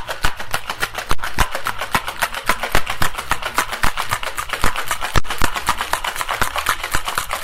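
cocktail shaker being shaken

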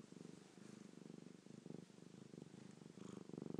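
cat purring

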